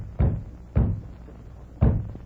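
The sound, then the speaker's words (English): Three feeble, dull knocks on the wooden door of the BF Ranch ranch house, unevenly spaced: two close together, then a pause before the last. Muffled, with no voices. “Sound like someone trying to rap on the door. Mighty weak door rapping.”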